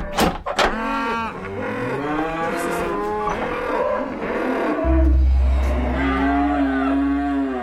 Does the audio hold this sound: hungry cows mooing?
yes